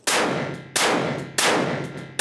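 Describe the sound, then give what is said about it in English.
Four loud revolver shots fired in quick succession by pulling and releasing the trigger and fanning the hammer, each a sharp crack with a ringing tail, spaced roughly two-thirds of a second apart, with no voices. “And that included pulling the trigger, releasing the trigger, fanning the hammer, pulling the trigger, releasing the trigger, and fanning the hammer, but doing it pretty quickly.”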